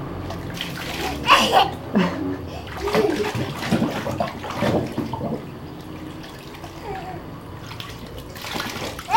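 A child dumps water from a filled container onto another child, splashing into a bathtub in a few uneven bursts, with steady watery sloshing between them and some indistinct voices in the background.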